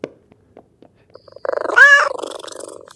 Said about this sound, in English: Hey, silly kitty cat. You're so cute. You're almost more like a dog with how you behave, but I can still tell you're a cat.